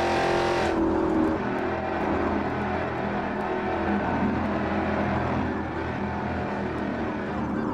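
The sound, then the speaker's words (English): A car engine roars loudly and steadily, revving with dense rumbling and road noise as the vehicle speeds during a chase, with no voices over it. “Better pull that damn vehicle over right now!”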